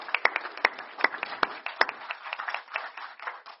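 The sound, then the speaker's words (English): An audience applauds steadily to thank the staff who organized a retreat, many hands clapping in a dense patter with a few sharper, louder claps standing out, sustained at an even moderate level throughout. “I want to thank all of you, and you all deserve a round of applause.”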